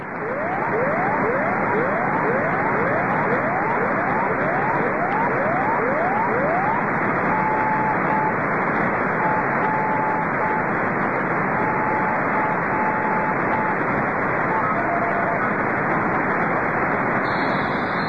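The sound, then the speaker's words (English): Noisy shortwave radio reception of a DX test broadcast, recorded in Illinois, under a constant wash of loud static, first a quick run of rising touch-tone chirps, then faint on-off beeps of Morse code buried in the hiss. “Listen carefully for the Morse code as well as the touch tones.”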